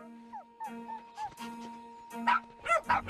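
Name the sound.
dogs yipping and whimpering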